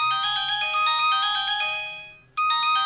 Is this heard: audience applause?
no